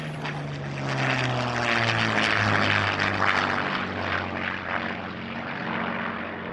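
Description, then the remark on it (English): A propeller aircraft's piston engine drones loudly and steadily, its deep harmonic hum shifting slightly in pitch as it passes, with a broad rushing roar over the top and no voices. “An iconic and extremely important engine, the Rolls-Royce Merlin first flew in 1933 and went on to power some of the best-known planes of the Second World War.”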